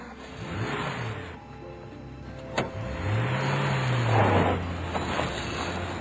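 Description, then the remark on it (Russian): A car engine idles, then revs up and pulls away toward a green valley with a rising drone that settles into a steady hum. A sharp click interrupts midway, and no one speaks. “Еще несколько прощальных слов и поцелуев, и машина тронулась по направлению к зеленой долине.”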